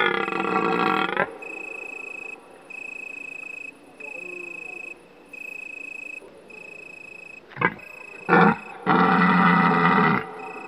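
A red deer stag's deep rutting bellow, its autumn breeding call: one long roar, then a pause, then short grunting bursts and another long bellow, loud, with a steady high insect-like drone between the calls.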